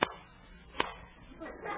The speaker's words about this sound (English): What's that? Two claps of thunder.